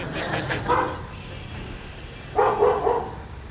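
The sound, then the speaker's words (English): A dog barks in two short bursts, a brief pause between them, over a steady background hum with no one speaking. “Dog is welcoming you.”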